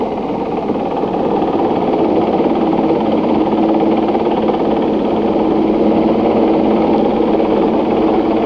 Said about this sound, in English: A new landing pad was cleared on a nearby mountaintop, and the 46 members of the expedition waited with their equipment on the mountain. Flares were fired through the cloud cover. And soon the rescue chopper circled the pad. It was too small to land.